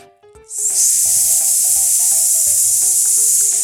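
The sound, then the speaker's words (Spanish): A long, steady "sss" hiss made by voices imitating the sound of air escaping from balloons, starting after a brief pause and holding loud and unbroken over a light musical melody. “Y entonces los niños empezaron a imitar el sonido.”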